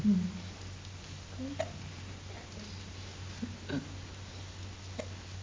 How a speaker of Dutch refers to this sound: Heeft een hik? Ja.